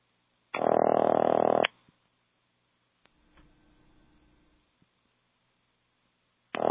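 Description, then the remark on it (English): A harsh, buzzy telephone ring, heard over the line after dialing 0 with rotary pulsing through an Automatic Electric step-switch exchange, sounds for about a second, followed by a stretch of soft mechanical clicking and rattling, then a second ring begins. “I miss that sound. Every ring used to sound different, and now it all sounds the same.”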